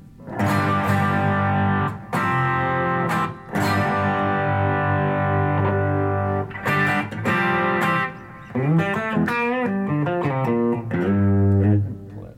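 An overdriven electric guitar, played through an overdrive with an output knob and a four-position mid-range control, plays sustained chords and bending lead notes with a warm, dark, distorted tone, loud, with no talking over it.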